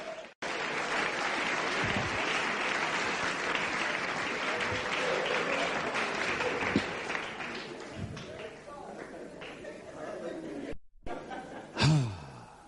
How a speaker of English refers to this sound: Clap it very well. Clap your hand.